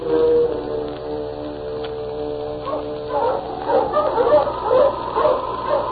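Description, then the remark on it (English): Sergeant Preston's pack of husky sled dogs, led by King, barks and yips in quick, overlapping bursts while pulling a sled through snow. The barking builds through the second half over a steady sustained musical drone. “Several days later, King ran far ahead of Sergeant Preston's dogs, breaking a trail in the snow for the sled.”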